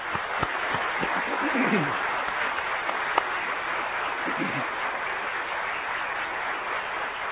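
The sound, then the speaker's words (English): An audience claps steadily to thank a couple, in a dense, sustained wash of applause that keeps an even loudness for the whole stretch, with a few sharper individual claps standing out. “I think it would be appropriate that we might show them our thanks by giving them a round of applause.”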